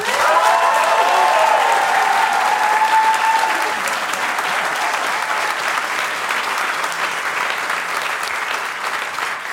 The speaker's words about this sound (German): kriegt jetzt einen fetten Applaus.